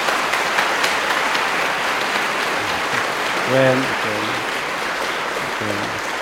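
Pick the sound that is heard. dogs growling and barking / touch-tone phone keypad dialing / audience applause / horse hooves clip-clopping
audience applause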